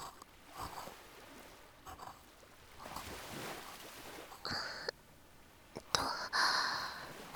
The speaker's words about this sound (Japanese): 波の音とかもこの方がしっかり聞こえてるんじゃない？ ザーって感じで、なんか耳障りがいいのだよね。